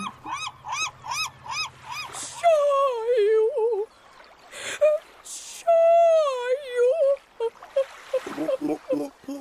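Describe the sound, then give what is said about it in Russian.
A voice imitates the pitiful, plaintive crying of a white, feathered gull sitting on a stone: a string of wavering whimpers and drawn-out wailing cries, rising and falling in pitch, fairly loud and with no other talk. “Плачет жалостно, прижалостно.”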